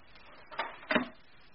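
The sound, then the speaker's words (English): A drawer is pushed shut: a soft wooden knock followed a moment later by a heavier thud with a brief low resonance, against a quiet background with no voices. “For the moment, put it back in the drawer.”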